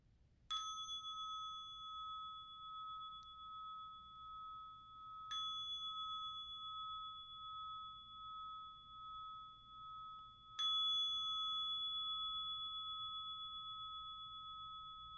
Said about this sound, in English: Let's begin with the sound of a bell.